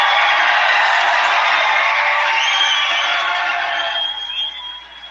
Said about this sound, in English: You can hear the crowd going wild, all those whistles. And this audience is from all over. Anytime there's a Trump event, it's not, this is in Davenport, Iowa, but trust me, there are a lot of people here from all over the country